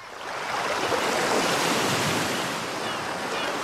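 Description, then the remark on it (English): Surf washes onto a beach in a steady, broad roar, swelling slightly midway then settling, fairly loud with a breezy hiss and no voices. “Et je me retrouve sur la plage à fêter les anniversaires du monde de la guitare.”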